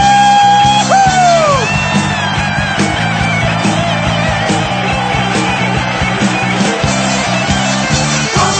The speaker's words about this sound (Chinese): 让我们将我们的掌声欢呼归给我们的主，哈利路亚！